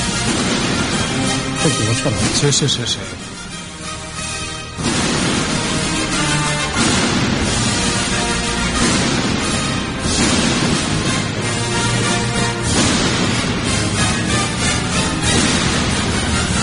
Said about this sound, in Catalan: Home, i tant! Tchaikovsky. Sí, l'obertura, sí. Al final, de l'obertura 1812. Sí. Escolteu les canonades que venen ara.